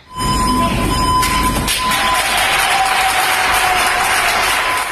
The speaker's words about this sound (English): At a hospital in Barcelona, Spain, doctors and nurses surprised a cleaning crew with a warm round of applause.